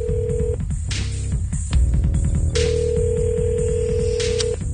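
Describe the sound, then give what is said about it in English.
A phone being dialed to call a prize winner, with quick tones and clicks, then a steady ringing tone of about two seconds that repeats, heard over a busy, rhythmic background music bed. “And then let's dial up the phone and see if we can give away this grand prize trip.”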